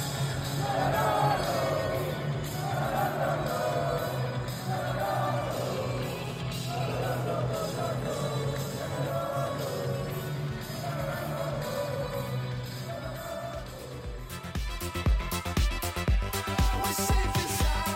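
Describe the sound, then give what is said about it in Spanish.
A packed stadium crowd in Vallecas roars and chants, celebrating a comeback completed in three minutes with a brace by Enteca: a dense, sustained wall of voices with rising swells, turning into a louder, more chaotic burst of cheering and whistles near the end. “Prueba de ello es que ayer, tras la remontada, en tres minutos con ese doblete de Enteca, sonaba así la locura en Vallecas.”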